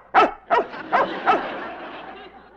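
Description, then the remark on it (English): Killer, an Army-trained commando dog, barks on the command "Speak!" four times in a quick, fairly even series, loud, with the barks fading slightly and a short reverberant tail after the last one. “Ain't he a clever dog, disguising himself as a chimp? That's not a... Speak!”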